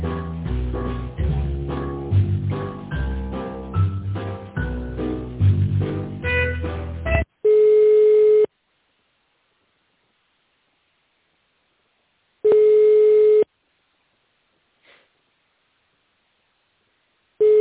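A few seconds of music cut off, then a telephone ringback tone heard while on hold: steady, low-pitched beeps lasting about a second each, separated by roughly four seconds of silence.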